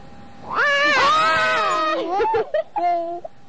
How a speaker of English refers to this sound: Alright, so if I gotta put it back and forth in each of my hands, and then if it falls, I'm supposed to scream, huh?